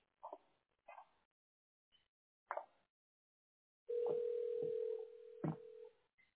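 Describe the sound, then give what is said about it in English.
A steady, loud telephone dial tone from a second phone hums for about two seconds as a call is being placed, with short yapping barks sounding just before it and a few more cutting across the tone. “Let me get my other phone so I can make a phone call.”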